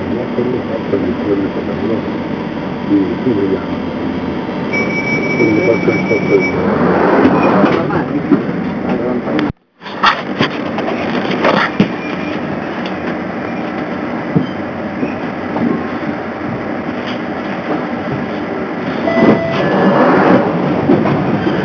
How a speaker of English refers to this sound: This train terminates at Stratford.